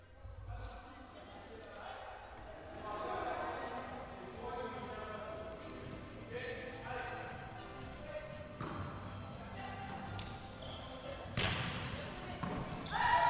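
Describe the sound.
The end of a women's volleyball team training session in the Descartes site gymnasium on a Monday evening: repeated sharp thuds of balls being hit and bouncing, mixed with overlapping voices of players calling out, with a few louder smacks near the end.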